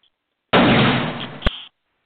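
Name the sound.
single gunshot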